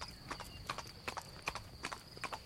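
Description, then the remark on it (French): Horse hooves clip-clop in a steady, paired rhythm on a hard surface, moderately loud, with a faint high hum and no voices: a black horse ridden by a hussar officer in full uniform, coming up from Cézanne on the road to Italy at Mont-Genèvre. “sur la route d'Italie au Mont-Genèvre, vit monter du côté de Cézanne un cavalier qui semblait un épidore sur un cheval noir.”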